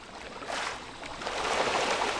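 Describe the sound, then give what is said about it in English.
A churning burst of water splashing as rainbow trout thrash at the surface at once while being hand-fed pellets sprayed across the water, at a Michigan site holding more than 500,000 fish, building in intensity and continuing steadily with no voices. “Dan Vogler feeds them by hand, spraying pellets across the water, causing the surface to explode.”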